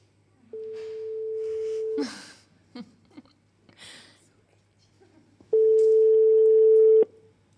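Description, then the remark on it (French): A phone call being placed to reach someone who will read a poem remotely: two long, steady electronic ring tones separated by a pause filled with short clicks and bursts of line noise. “qu'on va avoir au téléphone, qui va nous lire un poème à distance.”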